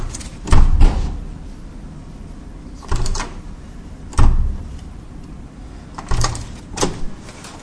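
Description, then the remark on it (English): A door, number 46 and the last door along the way, being opened, with a handful of sharp latch clicks and dull wooden knocks spaced a second or two apart, against a low background rumble and no talking. “45, 46, it's the last door.”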